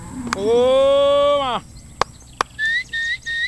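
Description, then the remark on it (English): A farmer's long, drawn-out herding call to his cows rings out and trails off, followed by two sharp clicks and three short whistled notes in quick succession, as he moves the cattle to a new pasture on a farm in the Patia Valley, Colombia. “is calling his cows, moving them to a new pasture.”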